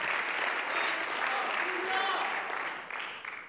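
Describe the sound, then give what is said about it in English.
A church audience claps hands steadily in praise in a dense, continuous wash of applause that holds for several seconds, with a few faint voices mixed in underneath. “Clap your hands.”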